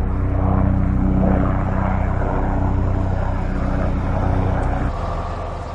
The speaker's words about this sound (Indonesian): Helikopter dan pesawat terbang menjatuhkan bahan pemadam api dan air di atas kobaran api.